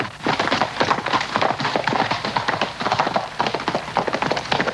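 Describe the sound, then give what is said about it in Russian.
Rapid hoofbeats of horses clip-clop in a steady, galloping rhythm, fairly loud, with a busy rustling texture around them and no one talking; the heroes ride horses against rocky mountains in the western film Butch Cassidy and the Sundance Kid. “Герои на лошадях на фоне скалистых гор.”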